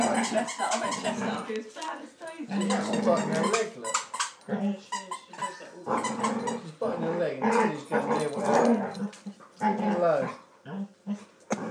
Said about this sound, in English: the dogs are playing. Daisy and Oshie.